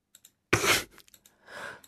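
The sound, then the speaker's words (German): Several quick, light computer mouse clicks while clicking through emails, scattered irregularly, with a loud breathy exhale and a softer rushing breath between them; no one speaks. “ich klicke mich durch die richtigen Lösungen und du sagst irgendwann Stopp, okay?”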